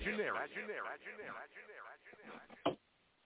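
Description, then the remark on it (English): A muffled, radio-quality voice speaks in a promo, then ends on a sharp, punchy hit followed by an echoing tail that quickly fades into faint background hiss. “Just love that echo out there at the end.”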